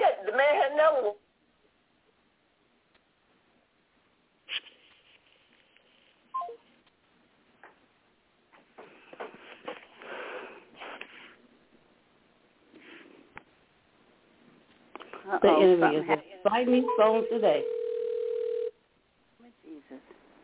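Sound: dropped phone call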